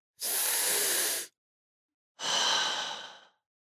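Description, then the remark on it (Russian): A deep, audible breath in followed by a slow breath out, two long airy whooshes separated by a short pause, clear with no talking. “Дышим глубоко!”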